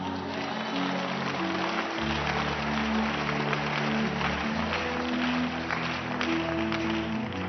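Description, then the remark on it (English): A crowd claps steadily in a dense, continuous patter that holds an even loudness throughout, with sustained low musical tones, like a keyboard, playing underneath. “Maybe we can just stop clapping so we can travel.”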